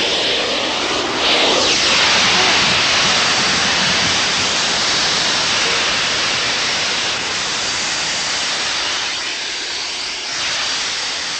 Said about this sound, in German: Hören Sie das Zischen austretender Luft? Zischen, zudrehen! Zieh mal zu!